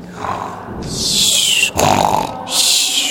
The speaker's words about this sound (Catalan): Només de tant en tant se sentia la respiració dels qui dormien, la brama dels qui roncaven.